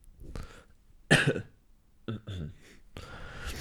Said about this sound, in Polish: Sorry. Sorry, będą tutaj przerwy, bo kaszel, słabe gardło i tak dalej.